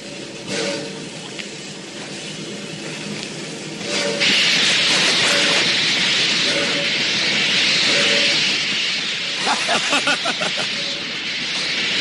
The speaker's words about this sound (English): So they're walking by the steamers, and the conductor sees them walking by, so he decides to do a little prank. You know, there's nothing quite as funny as a railroad prank that could harm you because of a burst of steam.